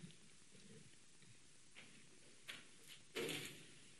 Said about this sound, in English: Close that door so more do not come in.